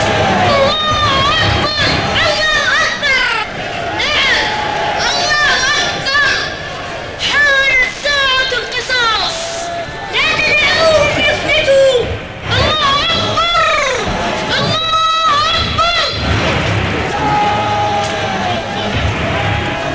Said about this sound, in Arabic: بسرعة كبيرة احتشدت الجماهير الغاضبة في الشوارع وتوجهت نحو ذلك الدير الغامض خارج المدينة. تحركت الآلاف في كتل متراصة كأنها الجبال أو وحدات أسطول يكتسح ما أمامه.